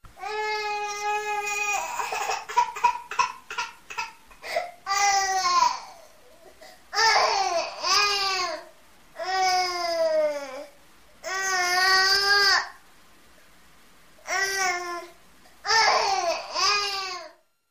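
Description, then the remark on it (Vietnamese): An infant who has just woken up cries loudly, starting with quick choppy fussing sounds and moving into repeated drawn-out wails, each about a second long, separated by short gasping pauses. “Đứa bé thức giấc khóc oa oa, tiếng khóc càng to,”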